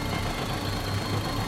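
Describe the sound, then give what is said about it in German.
A car engine is started and then runs at a steady idle, a continuous low rumble with an even, unchanging level and no voices over it. “Wir lassen den Wagen an.”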